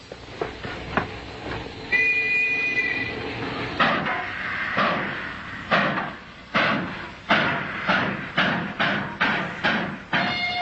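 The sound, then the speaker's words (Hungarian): A train with a dining car rolls along the rails with a steady, rhythmic clatter of wheels over track joints, moderately loud, with a brief high squeal early on and no voices. “Csak vettem egy koporsót, és felhoztam erre a vonatra.”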